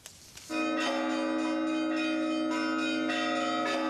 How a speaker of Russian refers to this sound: Все колокола может звонить каждый из пришедших на необычное мероприятие.